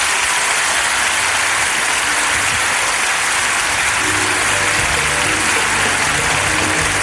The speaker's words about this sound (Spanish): Pero igual, gracias por venir y feliz cumpleaños. Y la gente te va a dar un fuerte aplauso, cumpleañero.